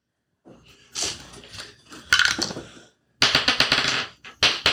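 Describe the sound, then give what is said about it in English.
Dice clatter and roll across a hard tabletop in a few rattling bursts of rapid clicks, the last ones loudest and busiest, with no talking, as players roll for initiative in a game. “My dice are not nice to me.”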